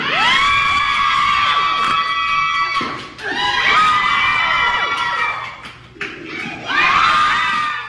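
crowd screaming

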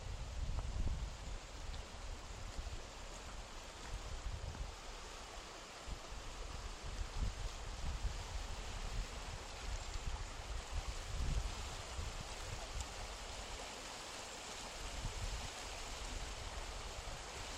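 flowing stream water

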